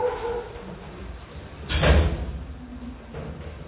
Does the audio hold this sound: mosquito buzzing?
no